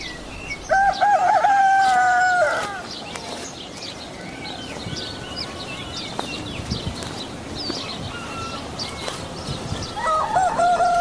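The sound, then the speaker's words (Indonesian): A rooster lets out a loud, drawn-out crow near the start, then begins another at the end, while small birds chirp steadily over a quiet, cool rural morning in the countryside. “Pagi dengan suasana pedesaan yang sejuk, kicau burung, kokok ayam, dan suara kambing menambah suasana pagi jadi menyenangkan.”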